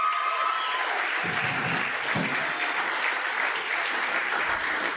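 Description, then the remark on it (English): An audience claps together for the Lord in honour of a minister, a dense, continuous wash of applause that holds steady and fairly loud across the whole stretch, with no talking over it. “Can we clap for the Lord for him?”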